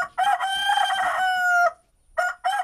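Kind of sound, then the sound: bird, rooster crowing cock-a-doodle-doo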